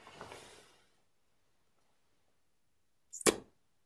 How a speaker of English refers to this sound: And you miss. Okay, that didn't count. I do another arrow.